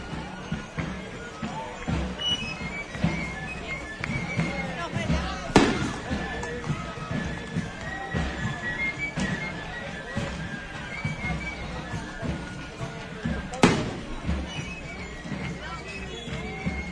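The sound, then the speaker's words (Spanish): Two sharp, loud festival rocket (cohete) blasts go off overhead several seconds apart, announcing the arrival of pilgrims in the town. They crack over a steady background of crowd murmur and people talking. “Y ya escuchamos los cohetes que anuncian que todos van llegando.”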